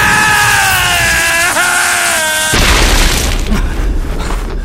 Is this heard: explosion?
yes